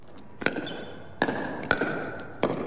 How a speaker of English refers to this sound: The patter of pickleballs and the squeak of sneakers fill the Floyd Dryden campus gymnasium in the Mendenhall Valley on Wednesday afternoon.